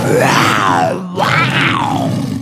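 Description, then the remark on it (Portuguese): A storyteller voices two loud, drawn-out growls imitating the roar of the lion in a story about Anansi. Each rises in pitch and then falls away, with a brief pause between them. “E até o leão se admirou e fez...”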